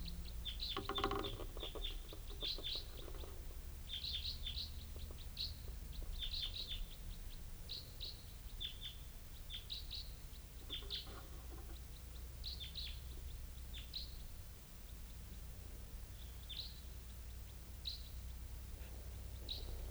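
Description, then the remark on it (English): A bird giving type 4 calls flies over without stopping, repeating short, high chirping call notes in irregular bursts over a steady low rumble, the calls coming every second or two throughout, with no talking. “Type 4 bird coming in.”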